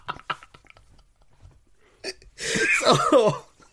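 A short, harsh cough bursts out after a few faint clicks and rustles, loud and spluttering with a rough, throaty rasp, lasting about a second before fading.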